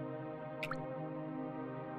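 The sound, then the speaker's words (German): A couple of quick water drops plink in rapid succession into a sinter pool in a cave, faint and echoing over a steady, low droning ambience with no one speaking. “Kannst du die Tropfen fallen hören?”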